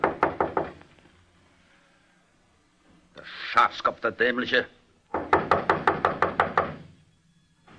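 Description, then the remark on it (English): Two bursts of firm, rapid knocking by a general on a barber shop's wooden door around midnight, separated by a man speaking briefly; the second burst is a quick run of about eight sharp raps. “He got out of his car and, after looking around very carefully, knocked at the barber's door.”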